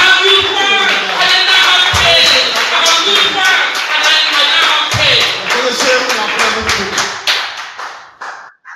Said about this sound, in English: Hallelujah. Let's clap for him.